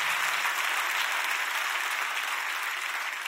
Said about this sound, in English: Clap your hands by faith and receive that, what I just told you. Come on.